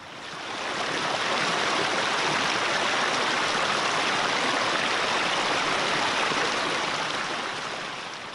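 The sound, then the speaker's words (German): A steady, dense roar of an ice-cold glacial meltwater river in Sarek, loud and churning continuously without a break for the whole stretch, fading in at the start and easing off at the end. “Wir haben es gut durch das eiskalte Wasser geschafft, obwohl es zeitweilig über Kniehöhe ging.”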